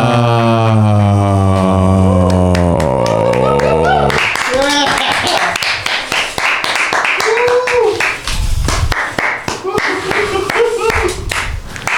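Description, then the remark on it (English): A sustained sung note gives way to loud studio audience applause for Governor Jerry Brown: dense, steady clapping that runs for several seconds, with scattered voices and cheers mixed in. “The crowd here in the studio really liked that, Jerry.”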